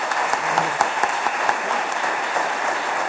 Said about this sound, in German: Ich denke, da ist immer Applaus da.